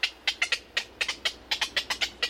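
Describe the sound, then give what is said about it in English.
Black-crowned night herons calling at a rookery: a rapid, overlapping series of short, harsh squawks from several birds, steady, with no talking. “For black-crowned night herons, a city zoo can be home sweet home.”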